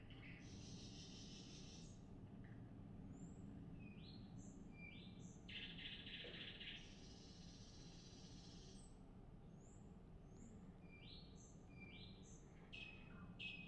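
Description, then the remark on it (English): A nightingale sings alone in the dead of night, stringing together varied phrases of sharp whistles and rapid, buzzy trills with short pauses between them, set against a quiet, steady low background hum. “This is a nightingale, dead of night.”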